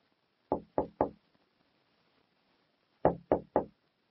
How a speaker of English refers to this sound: They knock on the door.